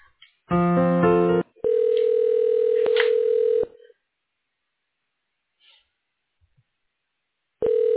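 Telephone ringing tones over a phone line while a call is being transferred: a brief buzzy burst, then a steady mid-pitched tone lasting about two seconds, a long silent pause, and another tone beginning. No one speaks.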